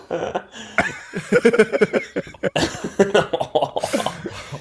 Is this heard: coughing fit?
yes